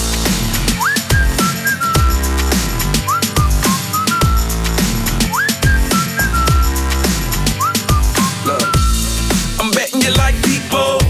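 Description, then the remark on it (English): A bright whistled melody repeats in short rising-then-level phrases over a loud, steady beat with heavy bass and percussion, recurring roughly every couple of seconds throughout. “Can you blow my whistle, baby, here we go.”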